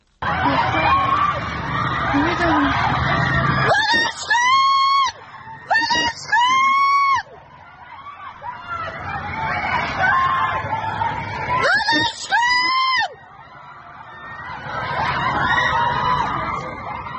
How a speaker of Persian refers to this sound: تصاویری منتشر شد که ماموران در حال بازداشت تعدادی از دانشجویان هستند و دانشجویان هم از داخل خوابگاه دارن به این اقدام ماموران امنیتی اعتراض میکنن و فریادهای اعتراضیشون به گوش میرسه. صدای یکی از این ویدیوها رو میتونیم بشنویم الان.